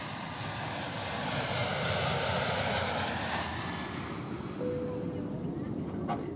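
A steady airplane engine drone fills the cabin, a broad continuous roar that swells slightly midway, with a faint tone briefly rising near the end; no clear speech.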